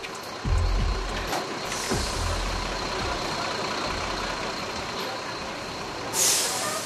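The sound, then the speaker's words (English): Heavy buses bringing deported migrants back to villages and cities in El Salvador idle and rumble with a deep, steady engine drone. A sharp, loud hiss of air brakes bursts out near the end, with a few fainter hisses earlier. “Buses bringing migrants caught in Mexico heading north to the USA back to villages and cities in El Salvador, apprehended or deported by the authorities.”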